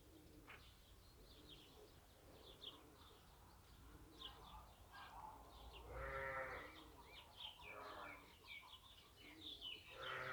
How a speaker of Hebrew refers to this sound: מה זה? כבשה? איך עושה כבשה? מה היא אומרת? מה היא רוצה?